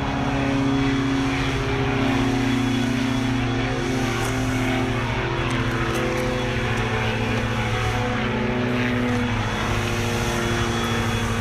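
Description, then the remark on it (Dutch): A powered propeller airplane engine drones loudly and steadily throughout, its low harmonic hum holding an even pitch, with no voices. “We vliegen deze kant op, vliegen de motorvliegtuigen.”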